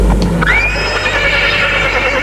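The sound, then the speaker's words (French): A horse whinnies loudly at a castle stable, a single long, wavering neigh that rises sharply then trembles and trails off over a couple of seconds, with a low rumble of background noise beneath. “prépare-moi un cheval, je pars de suite.”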